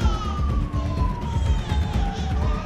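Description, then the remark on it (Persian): An ambulance siren wails in one slow falling tone over a steady low engine and road rumble, heard from inside the moving ambulance as it takes two patients from a bad crash, a mother and her baby, to hospital; fairly loud and continuous, with no voices. “شما توی آمبولانس هستید، یه تصادف خیلی بد داشتید، بچه‌تون پیش ما، حالش هم خوبه، داریم میبریمتون بیمارستان.”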